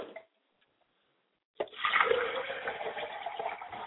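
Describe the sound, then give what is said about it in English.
A short sound, then a pause, before liquid is poured out as a libation to the west in honour of the Orishas, a steady, splashing stream that keeps flowing to the end. Moderately loud, with no voices. “We pour libations to the west and we say Ashe.”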